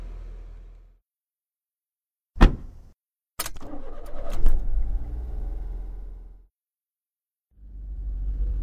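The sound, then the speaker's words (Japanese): A car engine turns over with a sharp burst, then rumbles steadily as if pulling away, after an earlier thud, as someone is driven home to Kojima Town near Kojima High School; low vehicle rumble fades in and out around it, with no talking. “じゃあ車で家まで送るよ。”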